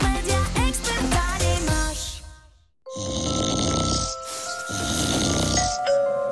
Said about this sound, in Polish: Dochodzą mnie słuchy, że pani mąż chrapie jak niedźwiedź.